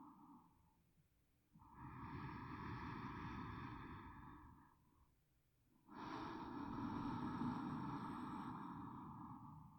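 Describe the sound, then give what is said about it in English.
Two slow, deep breaths, each a long, airy inhale or exhale lasting a few seconds, separated by a quiet pause, with no talking. “Relax into your bed and take a few deep breaths with me.”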